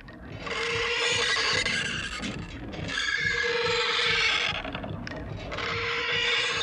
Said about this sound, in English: As the eccentric turns, the metal pump rods push back and forth above the ground outside the pump house. On top of the background rhythm of the pump, the rods make their own music, with all their clinking and clanking and screeching going on.